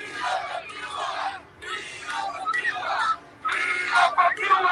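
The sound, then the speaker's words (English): A large crowd of hundreds of protesters in front of the White House in Washington, D.C., shouting demands to President Biden about Cuba, calls out in loud, rhythmic bursts, voices chanting together in three or four surges separated by brief pauses, the massed yelling sustained and forceful. “Yesterday, hundreds from all over this country gathered in front of the White House, shouting their demands to President Biden to do more.”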